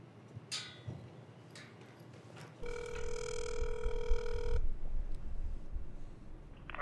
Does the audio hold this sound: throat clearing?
no